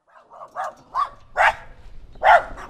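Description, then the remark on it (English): A dog barks repeatedly in a quick, uneven series of sharp yaps, the last few louder, with a low background rumble underneath, as a county worker knocks on doors. “knocks on doors, avoids dogs, and just generally chats people up.”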